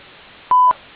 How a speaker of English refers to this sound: Please leave your name, phone number, and a brief message after the tone, and I will call you back as soon as I am able.